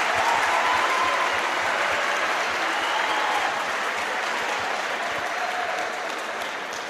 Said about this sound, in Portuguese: Gente, quero, quebrando o protocolo aqui, pedir uma salva de palmas para os alunos que vêm aqui, mesmo com as dificuldades, no escuro, sem trânsito. Parabéns para vocês.